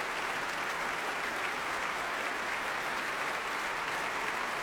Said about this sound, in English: Handel's other jubilant Hallelujah chorus, ending his oratorio, Judas Maccabeus, first performed on the 1st of April, 1747, and we're told went off with very great applause. And you can hear it's getting the same reception tonight.